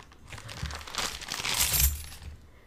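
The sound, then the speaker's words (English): Coins sent in a package clatter and jingle as they tumble out of crinkling packaging in a busy rustling burst lasting a couple of seconds, with no voices. “He's also sent a couple of other coins as well. This is going to be some violent ASMR, and I apologize.”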